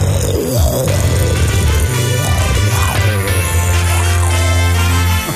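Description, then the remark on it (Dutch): Heavily distorted music blares from blown car speakers, with crackling, buzzing bass and harsh smeared highs that stay loud and continuous throughout. “ik denk dat ik zojuist mijn autobox heb opgeblazen”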